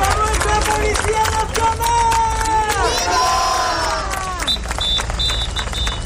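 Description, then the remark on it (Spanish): A large outdoor protest crowd chants a slogan together in loud, rhythmic unison, voices overlapping densely, with a few high electronic beeps cutting through near the end. “Este es uno de los lemas que se viene escuchando desde un primer momento”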